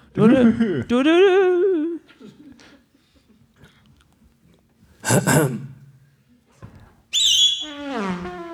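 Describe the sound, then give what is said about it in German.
A voice imitates a short radio traffic-report jingle, singing wordless melodic phrases in three bursts with sliding pitches and quiet pauses between them. “vielleicht bekommen wir einen kleinen Jingle für die für Verkehrsfunk.”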